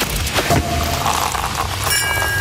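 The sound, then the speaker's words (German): Sparkling wine corks pop with a sharp burst near the start, followed by fizzing, crackling noise and a few faint high ringing tones toward the end. “Aber noch nicht wählen, sondern erst, wenn ihr die Korken knallen hört.”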